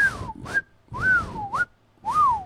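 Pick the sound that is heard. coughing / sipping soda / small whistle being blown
small whistle being blown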